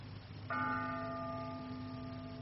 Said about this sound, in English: How long will that bell go on? It must continue now until the Feast of Skanda. It is telling the seconds until the appointed time.